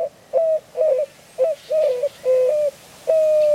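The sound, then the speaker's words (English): A white-winged dove coos from atop a saguaro cactus on a morning in southern Arizona, a rhythmic series of hooting notes, short and long phrases alternating with brief pauses, clear and fairly loud with no other sounds. “It's morning in southern Arizona, and a white-winged dove coos from atop a saguaro cactus.”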